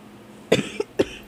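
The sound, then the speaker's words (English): A forceful cough followed by a couple of shorter hacking coughs, three bursts in quick succession over about half a second, with no talking. “So, one thing about me, I'm familiar with a cough.”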